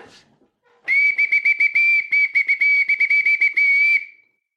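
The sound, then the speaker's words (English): A shrill, high-pitched bosun's whistle, kept on a desk, blown loud for about three seconds, its steady tone broken by rapid warbling trills before it cuts off, with no talking. “That, my friends, is a bosun's whistle that I happen to have on my desk”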